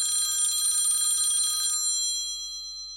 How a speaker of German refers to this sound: Da klingelt schon wieder, wie den ganzen Vormittag, ihr Handy.